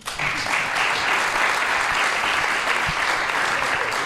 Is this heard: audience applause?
yes